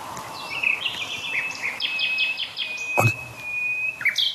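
A nightingale sings in the daytime, a varied phrase of whistles, rapid repeated notes and a long sustained high tone, with a sharp click near the end, over a soft background hum.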